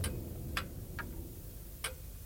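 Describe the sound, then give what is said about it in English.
A pendulum clock ticking out of beat, a short tick and a long tack: sharp, clicky ticks come at uneven intervals, short then long gaps, heard alone at moderate volume over a low background rumble. “The tick-tack is wrong. You hear it? There's a short tick and a long tack.”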